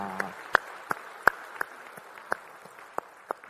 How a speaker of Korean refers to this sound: 앞으로도 우리 주님이 기대하시는 그런 찬양대가 되기를 주님의 이름으로 축복합니다. 우리 찬양 받으 주님께 영광의 박수 올리겠습니다. 할렐루야.